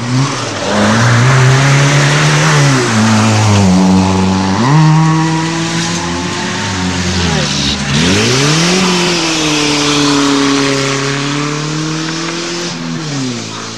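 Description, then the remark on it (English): Loud car engines roar past one after another, pitch rising and falling as they accelerate and shift gears, with a steady harsh mechanical drone and no voices. “First or the second car? First car.”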